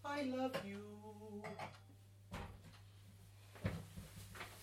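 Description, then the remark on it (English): Glassware clinks and rings as glasses are lifted out of a cupboard, with a few sharp knocks spaced over several seconds against a steady low background hum. “Have we got another cup? Glass.”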